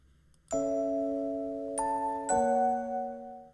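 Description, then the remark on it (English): A chime sounds three times in a rising sequence, each bright tone ringing out and sustaining, with the final one loudest before fading away. “So when you hear the chimes, think BPD.”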